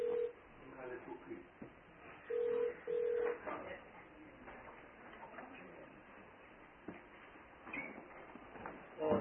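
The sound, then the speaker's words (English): A mobile phone rings during a committee meeting with a few short, steady electronic beeps, one early and then two in quick succession, over a murmur of background voices and room noise. “Who left what phone where?”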